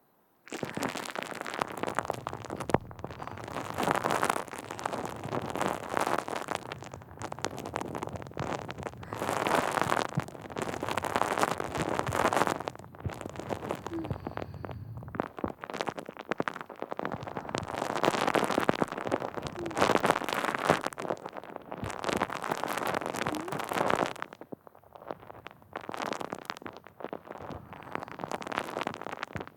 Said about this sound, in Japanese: お耳の中にもたっぷり泡入れて、シュワシュワパチパチしようね。